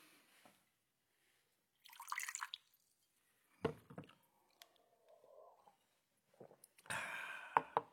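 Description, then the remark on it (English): Cognac trickles and splashes in short bursts into a glass, with light clinks and a brighter, louder pour near the end, with no voices. “May I pour you a glass?”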